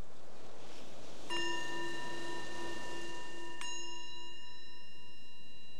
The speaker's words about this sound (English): So the bell invites us to bring the awareness back to the surface again from that exploration.